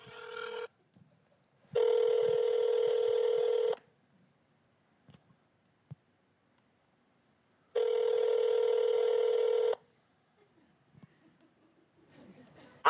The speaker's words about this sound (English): Watch this, I'm just gonna push call.